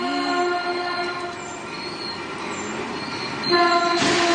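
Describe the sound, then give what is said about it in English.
A commuter train rushes past with its horn blaring in sustained tones over heavy rumbling, then hits a car with a sudden louder burst of noise near the end. No one speaks. “And this officer runs up and pulls this guy out of the driver's seat seconds before the train whizzes by and hits his car.”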